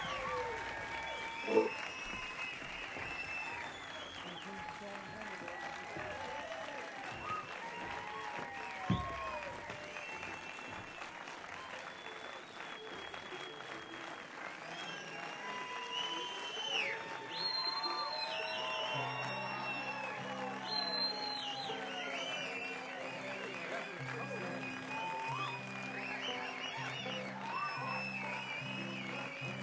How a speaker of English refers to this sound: Hurry back before they stop clapping. Hurry, hurry. Is that a standing ovation or were you just getting up to fold your lawn chairs?